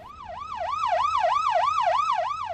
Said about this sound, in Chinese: 哎呀，弊啦！警车跟喺我后边，咁点算啊